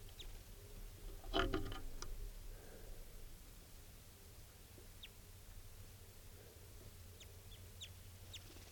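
A wild male bird gives a quick, rasping chitter call, followed by a few faint, high, thin chirps scattered over steady low outdoor background noise.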